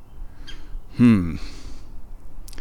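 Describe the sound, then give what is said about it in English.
Outdoors, a bird gives one loud, harsh squawking call lasting about a third of a second, with a couple of faint, brief chirps before and after it against a quiet background. “Birds are chirping at me.”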